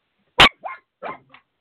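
dog barking

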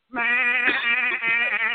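sheep bleating

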